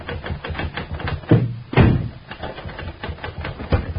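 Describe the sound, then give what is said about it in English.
Rapid typewriter keystrokes clack in a steady, uneven rhythm, with a few heavier thumps mixed in, as nightclub and society columnist Marty Rufus works at his typewriter in a New York newspaper office. The sound is moderately loud, with a muffled, narrow-band tone, and no one speaks. “At this same time, in a great New York newspaper office, Marty Rufus, nightclub and society columnist, is working at his typewriter.”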